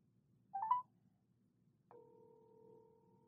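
A short electronic phone beep sounds, then after a pause a steady, even telephone tone starts and holds to the end, fairly quiet with no one talking, as a phone call is placed to add another person to a conference call.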